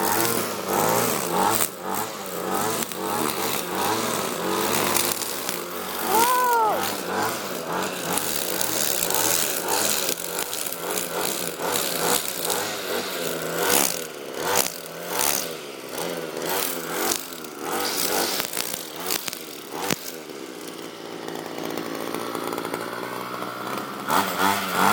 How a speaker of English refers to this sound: Sounds like a dying motorbike. But this lawnmower is a one that you hold in your hand and you have to... Oh my god, it's so cool!